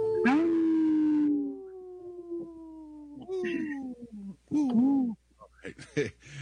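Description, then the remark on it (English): Wolves howling in a chorus of long, sliding wails that overlap and rise and fall, with a few shorter yips near the end, fairly loud and with no talking. “supported by Howling for Wolves, protecting wolves for future generations. Howl! Howl!”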